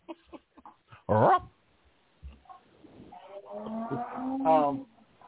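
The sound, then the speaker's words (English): A sad "womp womp" sound effect plays from a button: a short, loud, brassy groan followed by a longer, drawn-out, wavering low tone, with nobody talking over it. “Womp womp button activated.”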